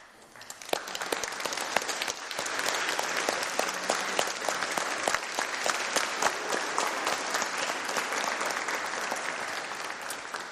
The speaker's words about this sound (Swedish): Den betyder välkommen, den applåden. Varsågod och sitt ner.